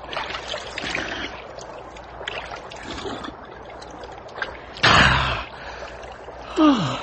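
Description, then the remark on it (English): Water splashes and slurps as someone drinks greedily, broken by a sharp, loud gasp for breath near the end and then a second, voiced gasp of relief. “Whoever thought I'd get stuck in a place where a drink of water would be so good?”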